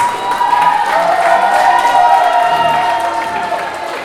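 Audience applause mixed with cheering and shouts for the school director at an Andrzejki 'evening of magic' event at Gimnazjum No. 30. The sound stays loud and steady for about four seconds, with dense clapping and excited voices throughout.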